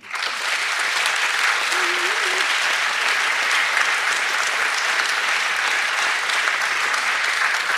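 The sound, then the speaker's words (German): An audience applauds steadily, a dense, even wash of clapping at constant loudness from start to finish, with a faint voice briefly audible beneath it. “Applaus.”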